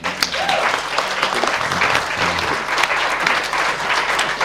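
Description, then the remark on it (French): A crowd applauds the fathers, steadily, a dense patter of many hands clapping at a fairly loud, even level throughout, with no voices rising above it. “On applaudit les pères.”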